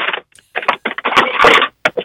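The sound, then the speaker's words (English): Paper rustles and crinkles in a series of irregular, scratchy bursts, swelling to a louder, sustained crumple midway before a few short final rustles. No one speaks. “It was a quick little love you too, right before the paper rustled.”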